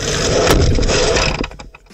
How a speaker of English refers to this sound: Dude, I have a feeling, man. Shippy's going to be able to use that little fart spray sound with farts after it, and then a what's that smell drop.